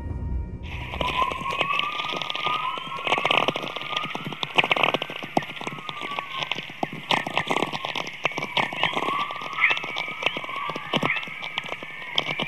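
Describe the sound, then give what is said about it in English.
Sound attributed to the aurora borealis: dense, steady crackling static threaded with faint wavering whistles that glide up and down in pitch, continuing throughout with no voices. “And most people don't know this, but the Aurora Borealis and Australis, they make sound.”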